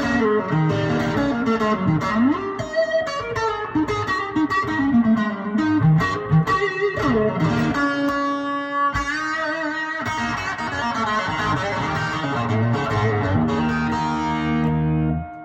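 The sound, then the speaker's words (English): A loud, fuzzy electric guitar played at gigging volume in a house plays a thick, saturated riff with sustained distorted chords and bending notes, steady throughout, with no voices. “All right, here's just volume that I would play gigging in my house. It sounds fat and huge, and there's no pe- there's your fuzz and a watt and line, but this is just me playing the M.”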